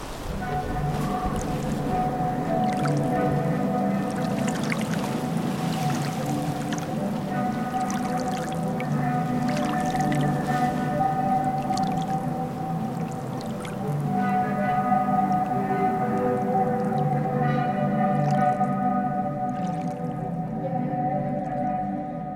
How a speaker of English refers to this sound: And just like that, we decided to listen to the sea organ, alone, at night, one more time.